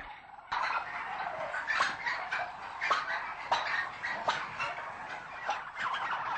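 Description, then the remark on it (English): A dense chorus of premium-priced bronze turkeys gobbling and calling inside a farm turkey shed with a straw bale, many birds overlapping continuously with sharper calls popping out every second or so, a crowded, echoing din with no one talking. “Premium-priced bronze turkeys.”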